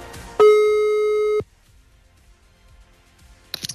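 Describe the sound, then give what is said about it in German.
A single steady electronic ringback tone from an outgoing phone call to a listener sounds loudly for about a second, then cuts off into near silence before a brief rustle at the end. “Dann habe ich jetzt hier mal die Telefonnummer derjenigen eingegeben, die uns den Schal der Wahl sozusagen geschickt hat. Ich hoffe, sie geht dran.”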